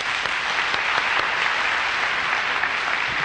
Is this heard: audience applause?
yes